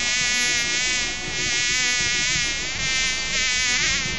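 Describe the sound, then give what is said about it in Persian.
A fly buzzes steadily, a continuous whining drone that wavers slightly in pitch and loudness throughout, with no other sounds around it. “بسیار خوب مگس جان.”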